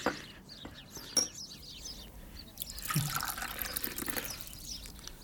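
Water pours into a glass, poured for someone to drink, a steady trickling splash for a few seconds over quiet background noise, with a couple of small clinks near the start.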